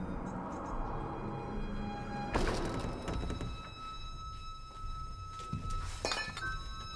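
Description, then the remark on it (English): A glass bottle is knocked over by someone entering a room, clattering with a sharp clink and thunk, followed by a few lighter glassy knocks as it settles, with a faint tonal hum. “Ben enters the room and knocks into something.”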